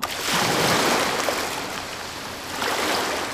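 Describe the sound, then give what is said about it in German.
Ocean waves wash onto a beach in a steady, full roar, with one surge early on and another swelling near the end. No voices. “Bei Wellen denkt man vor allem an Urlaub und Strand.”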